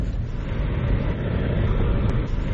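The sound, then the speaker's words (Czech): A steady engine and road rumble from inside a small city car driving through the streets of Budva in summer while searching for a parking space, with a constant low drone and no voices throughout. “I tako se autor Zipa probija kroz budvanske ulice u potrazi za prostorom dovoljnim za automobil koji slovi za mali, gradski.”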